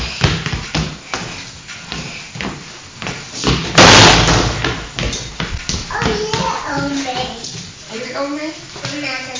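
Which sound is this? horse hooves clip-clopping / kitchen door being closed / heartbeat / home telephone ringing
kitchen door being closed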